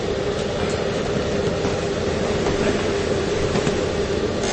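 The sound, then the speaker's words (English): A space heater fan hums steadily while being picked up by a microphone during a Bible teaching. It is a constant whooshing drone with a low tonal hum running underneath, unchanging in loudness throughout, with no voices present. “I think, can we turn off your fan, the heater, because it's going to be on a microphone the whole time.”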